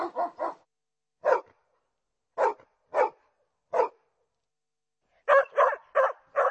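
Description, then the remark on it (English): A dog barks in irregular bursts, a quick triple bark, then single barks spaced apart, ending in a rapid flurry of four. Clear with silence between, no talking. “Dogs, the favorite Czech pet.”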